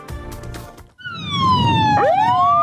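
ambulance siren

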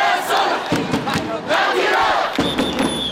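protesters chanting

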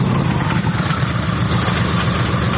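motorcycle engines running

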